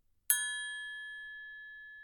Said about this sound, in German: Ihr nehmt eine Triangel und schlagt diese an. Das hört sich dann in etwa so an.